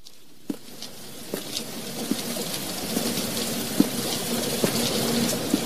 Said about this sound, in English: Rain. To wash away the guilt.